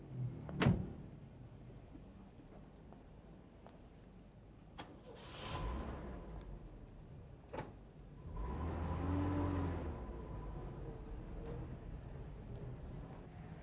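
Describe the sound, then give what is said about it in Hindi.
A car door thuds shut near the start, followed by a few lighter knocks, then an engine swells and revs twice in rising surges. There is no talking. “तुम जाओ गाड़ी में बैठो, खुदा हाफिज।”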